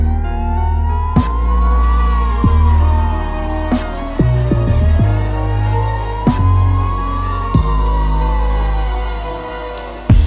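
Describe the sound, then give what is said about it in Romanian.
An ambulance siren wails in slow, steady rising and falling sweeps, loud and continuous, layered over a deep, bass-heavy backdrop with occasional sharp thumps. “Sunt 30 de ani de când salvarea e pe drum.”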